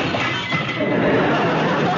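glass shattering

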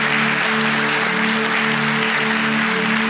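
audience applause

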